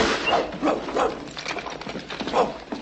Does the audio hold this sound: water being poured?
no